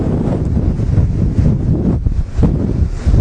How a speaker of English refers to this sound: Look at the beach is being washed away. This is a nor'easter. Waves. Oh my God.